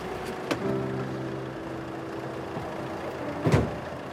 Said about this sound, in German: Da hält der Wagen und er steigt aus.